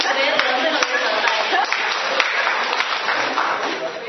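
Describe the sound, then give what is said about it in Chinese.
An audience claps steadily for God throughout, a dense, even patter of many hands at a constant moderate loudness, with a few voices faintly mixed in beneath the applause. “好，我们给掌声我们的上帝，好不好？”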